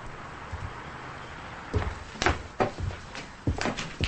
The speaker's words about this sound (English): She opens the motel room door and looks around outside.